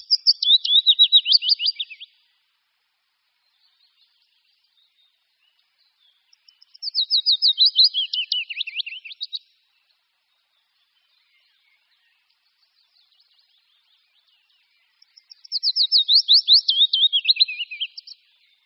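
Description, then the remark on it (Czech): A willow warbler sings three separate phrases, each a sweet, rapid run of notes that slides gently downward, with clear pauses between them and no other sounds around. “Jejich zpěv připomíná zpomalený zpěv pěnkavy obecné, znějící z velké dálky.”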